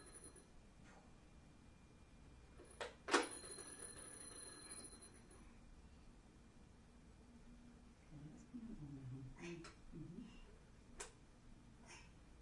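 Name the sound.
toy telephone ringing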